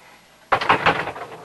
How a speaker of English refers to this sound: On the upstairs landing, Adam pauses, then knocks on the bedroom door.